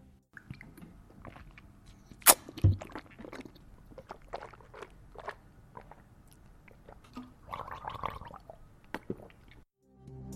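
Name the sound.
water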